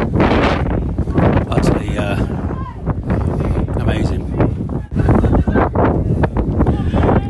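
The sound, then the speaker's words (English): Strong wind at an outdoor football match buffets the microphone in loud, continuous low rumbling gusts, with brief dips, and what may be muffled voices faintly underneath. “Terrible start. Very, very windy.”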